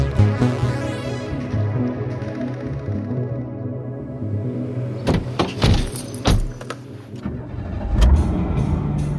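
An old car engine idles roughly with a low, uneven rumble, then sputters and knocks with sharp irregular bangs before revving up loudly, with no talking.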